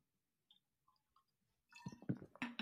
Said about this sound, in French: Hop, petite gorgée.